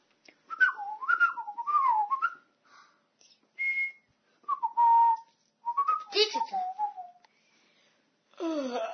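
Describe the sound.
Someone whistles like a small bird, a run of warbling, chirpy phrases with quick pitch slides and trills, broken by short pauses. No one speaks.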